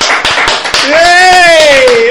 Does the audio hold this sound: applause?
yes